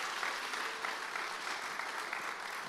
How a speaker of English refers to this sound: So can we just give a round of applause for our panelists and just say thank you to them?